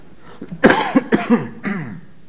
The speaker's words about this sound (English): You see, I really do have a cough. Somebody thought I was setting you up tonight so I could stay home and watch the football game.